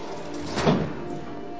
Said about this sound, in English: the officer opens her cell door. The officer leaves.